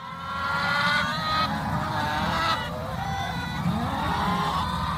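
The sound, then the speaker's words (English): A flock of 1,000 chickens, bought by accident by Hamilton man Steve Morrow from an egg farmer's online auction, clucks and squawks all at once, a dense, continuous chorus of overlapping calls that stays loud throughout, with no voices. “He wanted to buy one singular, solitary chicken for his backyard. Instead, he got something that sounded more like this.”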